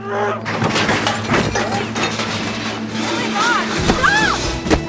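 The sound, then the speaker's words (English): Out on the street, a man is punched and thrown into metal trash cans with a loud, clattering crash, followed by several more banging impacts and rattles, with grunts and shouted voices mixed in. “Enzo pulls a gun on Denzel, who punches Enzo and throws him into trash cans.”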